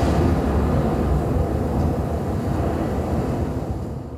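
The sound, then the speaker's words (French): Steady wind roars without pause, a dense low rumble with a rushing hiss above it, holding loud and even throughout before easing slightly at the end. No voices. “Oh, il y a du vent, les gens.”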